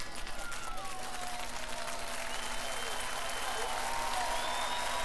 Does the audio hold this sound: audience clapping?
yes